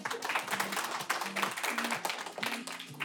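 A crowd applauds the 11 experts of the weekend school steadily, a dense patter of many hands clapping at once, with faint cheering voices rising through the sustained, fairly loud applause.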